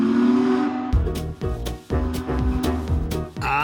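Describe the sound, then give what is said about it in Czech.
A steam train whistle gives a long, steady, low-pitched blast, then breaks off into a rhythm of loud chuffing bursts and clanking as the engine works, a train arriving in 1911 at Prague's station then named after Emperor Franz Joseph, now Wilson station. “A z vlaku, který právě přijel, vystupuje 23-letý Švýcar.”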